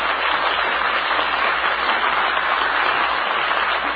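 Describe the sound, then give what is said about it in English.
A crowd claps and cheers in a steady, dense roar of applause that holds at an even loudness for the full few seconds, with no speech over it. “Let's send them a cheer, shall we?”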